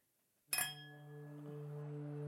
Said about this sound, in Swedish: Jag tror faktiskt jag dricker rakt i flaskan. Ja, det kan jag. En dag som denna krävs att celebration, att celebratera. Skål. Klirr, klirr. Oj, nej. Dåligt klirr. Kan du få till bättre klirr?